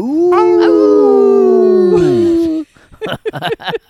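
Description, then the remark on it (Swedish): A long, loud wolf howl holds a steady mournful pitch for over two seconds before sliding downward, followed by a quick burst of short yips and barks. “Där satt den. Vargens dag.”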